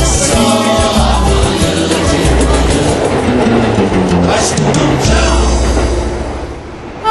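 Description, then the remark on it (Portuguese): A train rumbles steadily along the rails, loud and continuous, with rhythmic clattering of wheels over track joints for several seconds before easing slightly at the end. “Quem usa os trilhos na volta para casa, corre. Senão, perde o último trem.”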